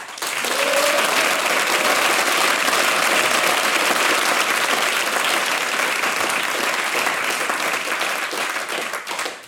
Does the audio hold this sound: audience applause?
yes